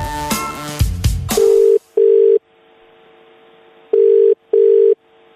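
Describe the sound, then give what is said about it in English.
A brief clatter of a phone handset gives way to a steady telephone ringing tone in double pulses, two rings, then a pause, then two more, clear with no voices; a Star FM radio host phoning a wedding applicant. “I got on the phone as many people as I could and spoke to them about their application.”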